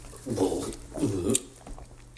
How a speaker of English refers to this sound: I'm going to grab the mic and actually like have it so you can get the ASMR of me doing the shot. So, yeah, just like it'll sound just like that.